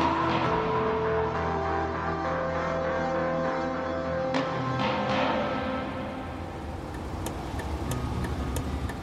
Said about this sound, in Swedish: Jag sitter i bilen på väg till Eskilstuna